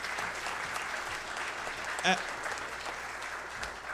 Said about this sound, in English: Yeah, give them a round of applause as they come up.